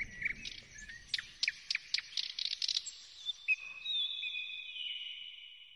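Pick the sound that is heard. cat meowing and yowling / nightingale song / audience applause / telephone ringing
nightingale song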